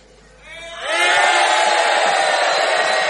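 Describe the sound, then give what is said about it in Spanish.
A crowd bursts into loud, sustained shouting after a brief rising swell, many voices yelling together in a dense, ragged roar that holds steady to the end, shouting to hurry the people who are entering. “Vamos a provocar el apuro de los que están entrando, gritando fuertemente.”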